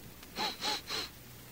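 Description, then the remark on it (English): Three quick, breathy sniffs at a cold breeze coming in off the ocean, in a steady rhythm, each a short hissy intake of air through the nose, fairly loud against a quiet background with no talking. “That were me sniffing.”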